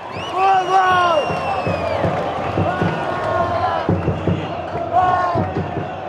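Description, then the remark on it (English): A loud crowd at Morumbi Stadium during a Brazil versus Bolivia football game chants and sings in unison while huge 10-foot drums pound out a steady beat beneath them, the voices rising and falling in sustained, drawn-out calls. “They are out of their minds singing in huge 10-foot drums.”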